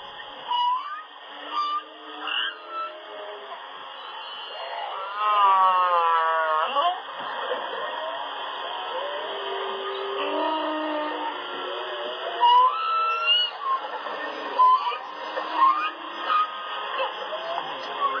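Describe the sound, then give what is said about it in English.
Male humpback whale song in Hawaiian waters in wintertime: long, wavering moans and rising whoops alternate with rapid pulsed chirps and squeaks, repeating in phrases over a steady hiss of underwater noise. “Yeah, so it's the male whales in the Hawaiian waters that are singing this song, and they'll sing it all throughout the wintertime.”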